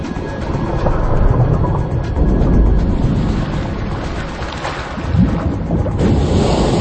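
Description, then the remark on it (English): Loud, continuous churning water, a turbulent rushing roar with surges of splashing, as killer whales make side swipes with their tails to create violent underwater turbulence while hunting a seal. No voices. “Side swipes create violent underwater turbulence, a new tactic.”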